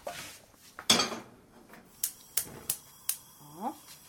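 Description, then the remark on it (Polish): A frying pan being picked up while cooking, to fry diced onion: one loud metallic clatter, then a short series of sharp, bright clanks and knocks, followed by a brief higher-pitched scrape. “Sięgam patelnię.”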